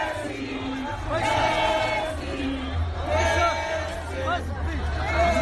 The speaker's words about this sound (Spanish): Y los constantes elogios a Leo Messi han sido algunos de los cánticos lanzados por la afición culé que más se han escuchado esta tarde.